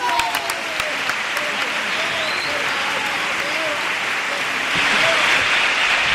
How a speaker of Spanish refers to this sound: La tanda de cuplés, más aplaudido el segundo quizá que el primero.